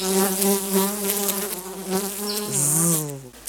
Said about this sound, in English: Or a bee buzzing in the flowers.